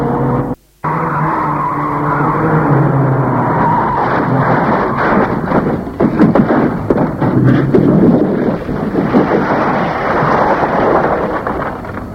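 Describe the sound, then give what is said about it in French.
A speeding car, driven out of control by two panicked people who can't really drive, skids loudly and continuously, then crashes into a wall at the end of a dead-end street: a heavy, rumbling crash with scattered bursts of impact noise, intense throughout, with no voices. “La voiture s'est écrasée sur un mur.”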